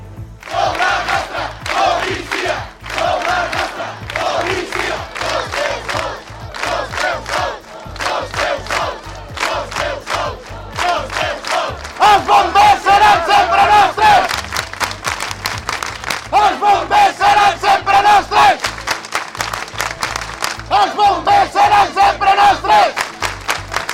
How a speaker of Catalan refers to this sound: Aquests van ser alguns dels clams que es van escoltar dilluns al vespre davant de la comissaria dels Mossos d'Esquadra i el Parc de Bombers.